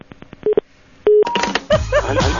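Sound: telephone dialing tones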